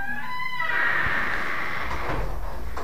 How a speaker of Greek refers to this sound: Αυτή η πόρτα γιώτα χρειάζεται λάδωμα. Δηλαδή σε μια χώρα όπου το λάδωμα είναι παντού. Στην πόρτα ρε παιδιά.